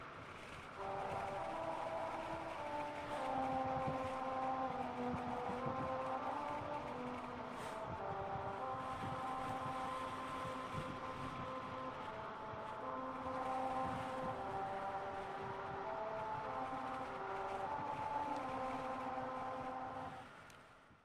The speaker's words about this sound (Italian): Nei pressi di Albuquerque esiste un tratto di strada che suona. Sì, suona. Percorrendolo a 45 miglia orarie, grazie a dei tagli nell'asfalto, la canzone America the Beautiful uscirà armoniosa dai pneumatici della vostra auto.